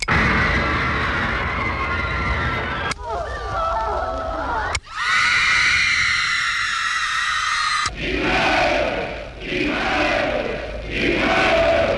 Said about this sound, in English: Whoops, wrong crowd. Sieg Heil ertönt da aus der Geräuschmaschine.